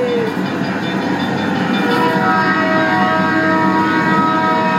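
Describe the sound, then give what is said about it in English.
A steady, loud rumbling ride noise in a ride's moving tunnel, resembling an American train, with sustained tonal hums and whines layered over a continuous mechanical roar, no speech. “That's what the American trains sound like, that.”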